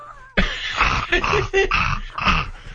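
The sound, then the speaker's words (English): A Jeep door shuts with one sudden, solid thud, followed by a couple of seconds of rough, rustling noise and low grunting sounds. “That's the Jeep door.”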